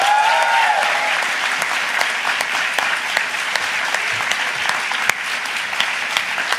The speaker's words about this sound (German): Unser Mensch an der Leinwand. Wollen wir ihn ganz kurz reinholen? Ich würde sagen, es ist Zeit für einen riesigen Applaus, bitte,